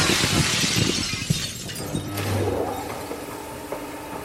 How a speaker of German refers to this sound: Auch ein Geräusch hat seine Klangfarbe. Die eines Donners ist eher dunkel. Die einer zersplitternden Glasscheibe eher hell.